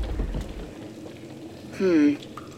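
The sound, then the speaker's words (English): Water trickles and gurgles steadily as it leaks into a tunnel, a low rushing wash throughout, with a short loud metallic groan sliding downward near the end. “This tunnel's letting in a bit more water than I'd hoped.”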